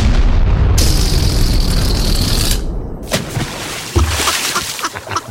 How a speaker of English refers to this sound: Now, we do have exclusive audio of the shooting down of the spy balloon. I don't know if any other news outlets have this. Thank you. Hey, let me enhance that for you. Okay. It was, once again, it sounded something like this.